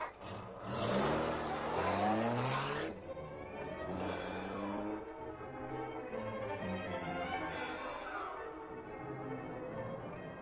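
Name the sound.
car engine accelerating away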